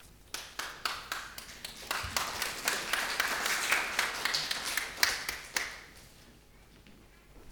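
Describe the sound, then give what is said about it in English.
An audience claps after a sermon on meekness, starting with a few scattered hand claps that quickly swell into steady, moderately loud applause before thinning out and fading to quiet. “Now it's my chance to be meek and not be upset you never clap for my sermons.”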